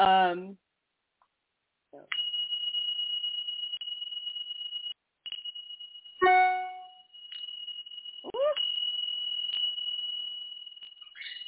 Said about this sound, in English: So I'm also going to clear energy real quick with my Tibetan bell. So watch your ears if you have headphones on, okay? It won't feel good otherwise.